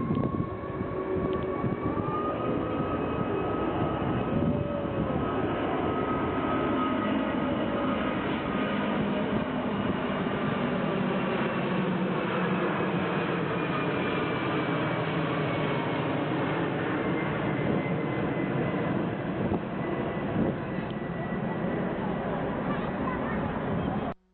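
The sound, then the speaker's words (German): An Airbus A380 four-engine jet airliner passes overhead at about 300 metres altitude, its engines producing a loud, steady roar with whining tones that slowly sink in pitch, sustained throughout before cutting off abruptly. “Und wenige Sekunden später, da wurde das Motorengeräusch etwas lauter und die Queen Mary der Lüfte erschien.”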